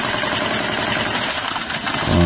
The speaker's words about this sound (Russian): Ожесточенное столкновение между террористической группировкой и сирийской армией, направление Хама к югу от стрельба. Вот. Летят трассеры, пулеметы работают.